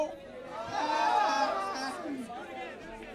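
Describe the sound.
A crowd of many voices, the drunk people in the audience, shouts "oh!" back together in unison in call-and-response, the noisy cheer swelling to a peak and then trailing off into scattered chatter.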